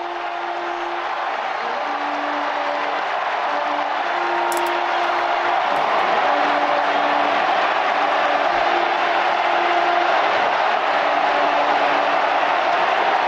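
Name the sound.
crowd cheering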